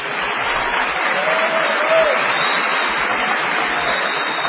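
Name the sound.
audience ovation applause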